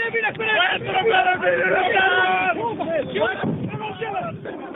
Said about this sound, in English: It's cooking off. Our cameraman, who's been hit in the face, was right. The ammunition and rockets in the wrecked cars began exploding.